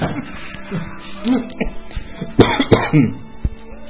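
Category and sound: human body sound, cough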